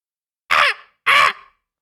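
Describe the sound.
Two loud, harsh caws in quick succession, each a short raspy burst with a brief trailing tail, done by a human voice mimicking a raven. No other sounds or talking.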